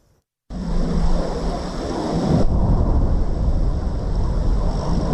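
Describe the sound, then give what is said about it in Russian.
A loud, jet-like roar of an incoming aerial bomb on the Avdiivka front, heard at Ukrainian artillery positions, bursts in after a brief silence and rumbles on steadily, swelling slightly, with no voices. “Шум, как будто реактивного самолета, затем взрыв.”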